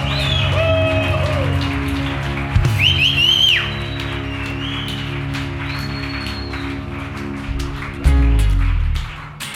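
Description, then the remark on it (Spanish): Loud, dense applause for Jesus at a worship service crackles steadily throughout, with a few high whistles rising over it and a sustained low musical drone underneath, swelling again near the end. “Alguien aquí que le dé un fuerte grito de amor a Jesús y un fuerte aplauso.”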